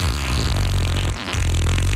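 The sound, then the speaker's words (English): A loud fart sound effect played on a radio station: a low, buzzy rumble that sputters out briefly midway, then blasts again for another second, with no talking. “Bringing you the best fart sound effects of yesterday, today, and tomorrow.”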